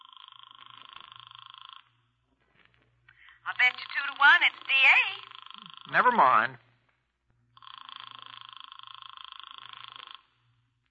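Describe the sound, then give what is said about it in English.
A long-distance telephone call rings on the line with a steady, buzzy two-tone burr, once at the start and again after a pause; between the two rings, people talk briefly. “It's ringing.”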